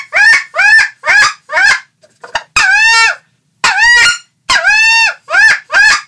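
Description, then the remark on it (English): A wood duck call is blown in a series of about ten loud, squealing bursts, some short and clipped, others drawn out and rising, with brief pauses between them and no voices. “This is the wood duck call.”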